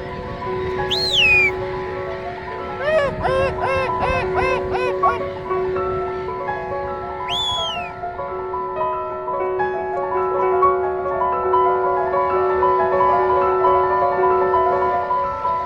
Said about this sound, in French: Un envol d'oiseaux. Oh là là, c'est magnifique, c'est géant.